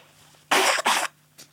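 A loud nose blow in two strong honking bursts with a brief break between them, followed by a fainter short sniff, with no talking.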